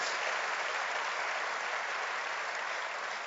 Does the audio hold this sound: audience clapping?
yes